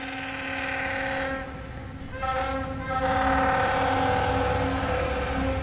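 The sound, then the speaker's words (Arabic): A train rumbles by with steady low-end roar and layered tonal hums, swelling louder partway through and holding a dense, sustained drone to the end, with no one speaking. “إذا ذهب القطار بنقف ولا بنواصل؟”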